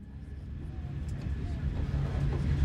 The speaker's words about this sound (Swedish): Men medan tåget dunkar fram på rälsen från Kalifornien och österut mot den blåsiga stan vid Lake Michigan bultar i samma takt något annat inom henne.